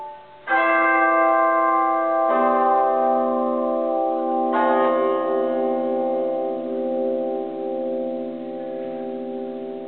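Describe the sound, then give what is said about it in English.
Large bells in the bell tower at Stephen Foster Folk Culture Center State Park in White Springs, Florida, ring out in three loud, resonant strikes about two seconds apart, each leaving a long, humming overtone that lingers and slowly fades. No voices are heard. “helps operate the museum and bell tower at Stephen Foster Folk Culture Center State Park in White Springs.”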